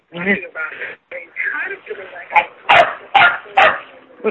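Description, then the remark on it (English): A dog barks repeatedly in a quick, insistent series of sharp yaps, slightly tinny, heard through a participant's unmuted phone during a group call, while people talk over and around the barking. “I can't talk with the dog constantly.”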